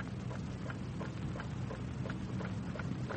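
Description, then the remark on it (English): A clock ticks loudly and steadily, about three sharp ticks per second, over a constant low rumbling hiss. No one speaks. “Never realized that clock had such a loud tick.”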